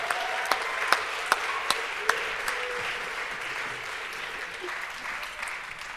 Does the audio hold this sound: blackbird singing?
no